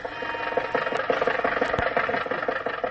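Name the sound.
car engine driving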